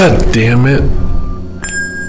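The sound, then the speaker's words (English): A voice swears, followed by a short pause and then a sharp clink with a thin, ringing tail as something spills in a kitchen. “This is the sound of the spill.”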